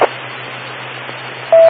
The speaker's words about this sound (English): I just hear the beep.